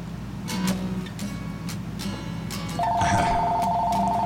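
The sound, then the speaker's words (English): A telephone rings, its steady electronic tone starting partway through over a busy background of clattering and murmur, loud and continuous until the end. “And hello, the phone.”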